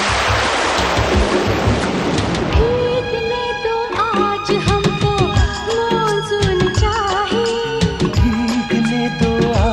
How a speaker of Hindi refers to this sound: चलो भागो डब्बे को धोने वाले आ गए। रात में भी डब्बों की होती धुलाई है, भागो भीगे जाएंगे बरसात आई है।